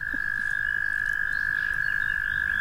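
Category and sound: animal, frog croaking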